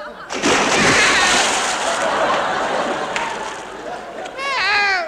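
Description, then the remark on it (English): A loud splash as someone drops into water, followed by several seconds of churning, sloshing water and then a few rising, warbling vocal cries. “I'm in the dreaded drowning type water.”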